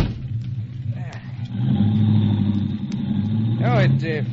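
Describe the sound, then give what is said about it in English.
A hired car's engine hums low and then revs up louder, holding a steady drone as it drives out of the city, with people briefly talking over it. “I hired this car and thought we might drive out of the city.”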